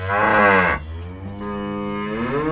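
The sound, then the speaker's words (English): A cow moos loudly, a long drawn-out low call that dips and then swells into a second, rising moo. No one speaks. “However, when he turned to the cows, that's when things started to get worrying.”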